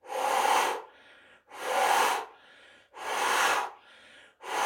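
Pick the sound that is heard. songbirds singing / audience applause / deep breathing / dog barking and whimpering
deep breathing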